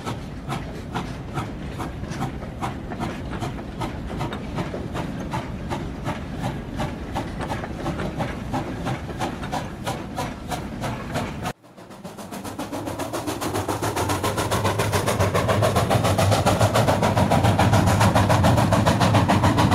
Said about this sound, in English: Once unloading is completed, the train is pushed back to the blue loader and the whole cycle repeats itself.